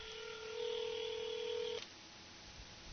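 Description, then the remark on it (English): A steady, fairly loud telephone tone from a call being placed holds for just under two seconds and then cuts off abruptly, leaving faint line hiss. No one speaks. “Let's see if we can get a hold of her on the phone.”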